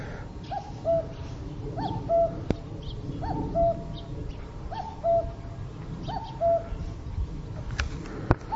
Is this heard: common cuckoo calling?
yes